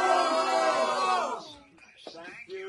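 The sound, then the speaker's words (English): A loud crowd cheers and shouts together for President Trump for over a second, a dense roar of many voices, then fades into scattered voices and a few individual calls. “you have the best crowd in the world.”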